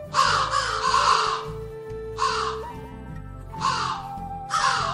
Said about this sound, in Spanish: Cuando empezaron a acercarse al ganado, los cuervos llegaron como siempre volando para advertir a los búfalos.